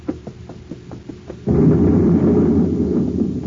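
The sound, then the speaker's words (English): A chemical vat in a lab explodes from built-up pressure with a sudden, loud blast that swells into a sustained, rumbling roar, after a short stretch of quiet, evenly spaced ticking and hiss. “One of the vats blew up.”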